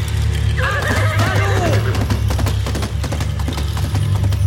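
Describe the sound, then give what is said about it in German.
A white Elven horse whinnies loudly near the start, then a rapid drumming of hoofbeats follows as it gallops off like the wind with Frodo on its back at Glorfindel's call, over a constant deep rumble in the background. “Auf Glorfindels Ruf hin sprengte das weiße Pferd mit Frodo auf seinem Rücken wie der Wind davon.”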